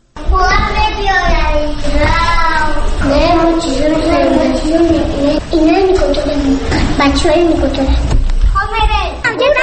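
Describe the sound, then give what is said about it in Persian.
Children's voices chatter and call out continuously, high-pitched and lively, as a group of kids plays together at Kindergarten No. 34 in central Dushanbe, Tajikistan, with overlapping talk filling the whole stretch. “من در کودکستان شماره 34 مرکز شهر دوشنبه قرار دارم. بچه ها مشغول بازی هستند.”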